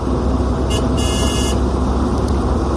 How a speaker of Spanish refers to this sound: Bueno, están viajando en un coche a toda velocidad hacia el hospital de Torrevieja.